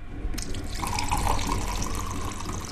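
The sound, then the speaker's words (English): Water pours in a steady stream into a drinking glass as a woman in her 70s pours herself a glass of water. She gets her water from a well. It starts just after a brief quiet moment and runs continuously with a faint ringing tone as the glass fills. “But as she pours herself a glass”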